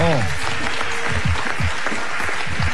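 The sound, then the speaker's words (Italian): An audience claps steadily for about three seconds, a dense, even wash of applause at fairly strong volume, with a brief voice at the start and faint voices beneath. “Un applauso.”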